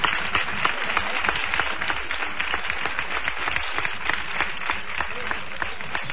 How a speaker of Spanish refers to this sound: qué trabajo más difícil el de meter el palio en esta pequeña capilla. Esa es la ovación del pueblo, la ovación de sus hermanos. Después de ese esfuerzo.